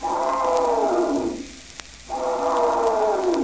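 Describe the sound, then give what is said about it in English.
A little clown elephant, held by its trunk, gives two long, loud trumpets with a brief pause between them, each a brassy, harmonic blare that slides downward in pitch, with no talking. “Oh, gee, what's the matter with that little clown elephant? They're holding on to his trunk.”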